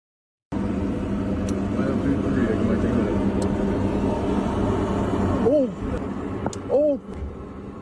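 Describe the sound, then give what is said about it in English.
An airplane crashing during landing: a loud, steady roar and rumble of the aircraft, then an abrupt shift in the noise near the end as brief voices cry out. “This is a different angle where you see the plane actually crashing.”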